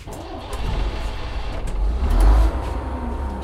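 A large bus engine starts up and rumbles with a deep, steady drone, swelling louder for a moment before easing back to a constant idle, heard from the upper floor inside the bus.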